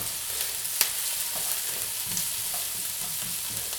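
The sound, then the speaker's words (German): Onions with a knife-tip of turmeric frying in a pan, being sautéed until translucent: a steady sizzle and crackle with one sharp pop early on and faint scraping stirs throughout, no voices. “Lass die Zwiebeln schön glasig anbraten.”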